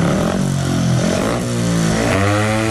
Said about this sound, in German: Dröhnen die Motoren am 3. Oktober in Herxheim bei den deutschen Meisterschaften der Sandbahnfahrer. Die Solisten und Seitenwagen-Cracks suchen neue Champions. Zwei Finals an einem Tag.